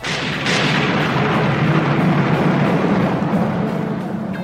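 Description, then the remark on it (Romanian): A continuous, heavy roll of thunder, a loud deep rumble that holds steady for several seconds with a rough, crackling texture, then eases off slightly at the end. No voices. “Ei bine, mă gândeam la tunete!”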